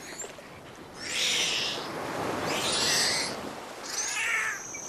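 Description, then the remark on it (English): Harsh, high-pitched squeals and whistles from multiple dolphins moving toward the same prey rise in three strident bursts over a steady hiss of underwater noise, each burst lasting under a second with short gaps between. “These strident sounds can be heard when multiple dolphins are moving toward the same prey.”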